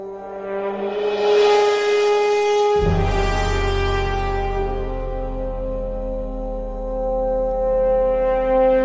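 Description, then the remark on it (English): A deep foghorn blares in a long, unbroken blast, its low droning tone swelling in partway through and holding loud and steady to the end, with no voices. “This one's called The Foghorn.”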